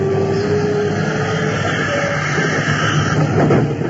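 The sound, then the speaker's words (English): A subway train pulls into the platform, a steady loud rumble with faint whining tones that swells slightly toward the end, with no voices. “I remembered that I'd been crying and then hurried out onto the platform because the train was coming.”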